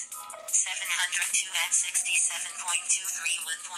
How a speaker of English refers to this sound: But we should be in a generally good state now where we can do a SIP call. Let's see. 702-8 phone. Incoming call. Okay.